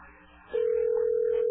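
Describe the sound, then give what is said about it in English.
A telephone beep sounds abruptly after a faint murmur and holds as one loud, steady mid-pitched tone until the end, unbroken and unwavering. “We'll hear a beep.”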